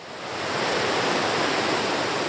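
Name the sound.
rushing river water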